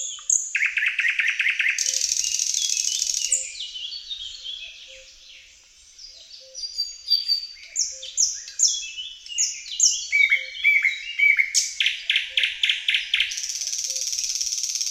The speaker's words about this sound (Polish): Słowika szarego możemy usłyszeć od początku maja do połowy czerwca.